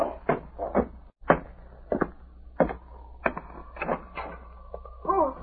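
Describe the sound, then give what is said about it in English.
A door is worked open with a series of sharp wooden clunks and rattles, roughly evenly spaced, and a faint drawn-out creak near the end. “Get going, Blackie. Open the door.”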